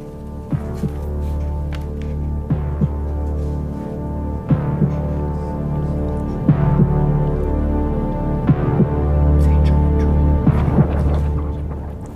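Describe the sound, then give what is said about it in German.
A slow, steady heartbeat thumps about every two seconds over a low, droning musical hum, building gradually like the opening of a song. No voices are present. “Oh ja, ich spiele es einfach mal ein und ihr werdet schon merken, es geht um, im Intro geht es um Herzschlag.”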